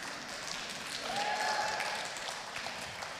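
An audience claps their hands in a steady, dense wash of applause that swells slightly in the middle, with a faint tonal note rising briefly above the clapping.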